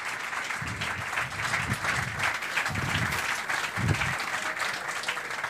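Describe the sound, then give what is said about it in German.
Steady applause from an audience welcoming a guest fills the whole stretch, a dense even patter of many hands clapping with no pauses and no voices. “so lang war unser Applaus nicht.”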